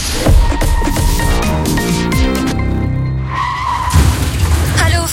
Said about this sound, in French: J'ai freiné trop tard, c'est la cata.